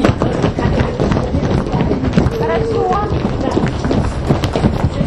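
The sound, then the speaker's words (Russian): Many feet stomp on a floor in a rapid, continuous patter of dull thuds, fairly loud, as people do a body-tapping exercise, while a voice speaks briefly over the stomping. “А ножки топают.”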